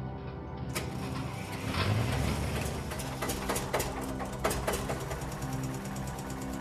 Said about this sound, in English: A car will break down.